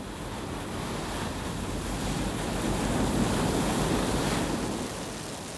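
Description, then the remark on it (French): A storm at sea on 22 March 2016, aboard a British research icebreaker: force 12 Beaufort wind above 120 km/h and heavy waves make a continuous, loud roaring rush that swells a little toward the middle, with no voices. “Nous sommes le 22 mars 2016 et nous faisons face à une tempête.”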